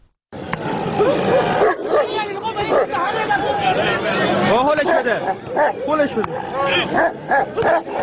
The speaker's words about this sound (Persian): در این نبرد خونین صاحبان دو سگ با نواخته شدن سوت مسابقه حیوانات را به جان هم می‌اندازند و با تحریک کردن آنها در نهایت صحنه دلخراشی شکل می‌گیرد